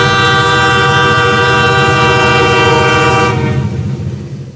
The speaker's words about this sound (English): It is a train, isn't it? Sounds like it's an old train, too. That's a pretty old train.